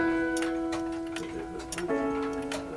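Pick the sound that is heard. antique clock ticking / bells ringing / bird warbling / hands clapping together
antique clock ticking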